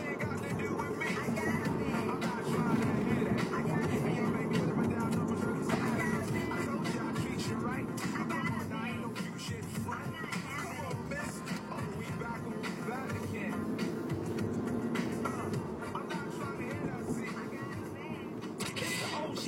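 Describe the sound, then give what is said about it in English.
A bus rumbles past amid steady street traffic, a continuous low engine roar that swells slightly at moments, with indistinct voices murmuring underneath. “Yeah, bus, just run me off the road.”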